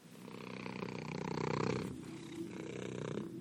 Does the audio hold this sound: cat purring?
yes